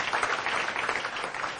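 An audience claps steadily for a person just introduced, a dense, even crackle of many hands that holds at a fairly strong level throughout, with no voices breaking through.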